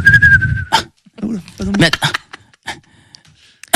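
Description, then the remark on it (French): A person gives a short, thin whistle lasting under a second, with a low rumble underneath, then breaks off into scattered vocal sounds and brief bursts of voices. “de temps en temps, tu siffles. Ton personnage aime bien siffler.”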